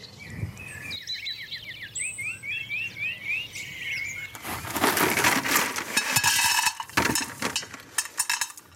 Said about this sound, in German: So, was ihr jetzt gerade schon gehört habt, war der erste Schritt zum Bepflanzen des mobilen Kübels. Es war die sogenannte Drainageschicht.